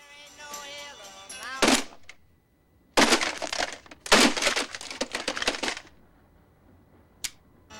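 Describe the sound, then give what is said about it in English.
A brief tonal radio-like sound gives way to repeated heavy punches on an alarm clock reading 6 a.m., punched until it breaks, with loud smashing and cracking bursts in quick flurries, ending with one last sharp knock. “This time, he punches it until it breaks.”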